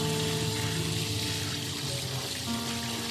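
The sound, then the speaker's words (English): Cool water pours on a hot day in a steady, continuous rush, a bright hissing splash that holds even for about three seconds, with a faint low hum underneath and no voices. “Cool water on a hot day.”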